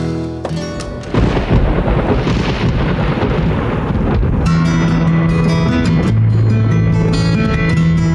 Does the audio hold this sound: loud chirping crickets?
no